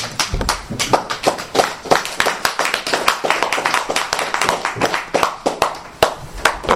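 A group of people at a sobriety support meeting applauding steadily, a dense flurry of sharp hand claps at an even loudness throughout, with no speech over it.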